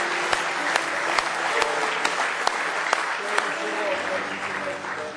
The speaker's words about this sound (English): Don't you want to praise Him for what He's done for you? Let's just give Him another good hand clap of praise.